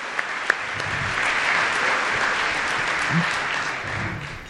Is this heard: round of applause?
yes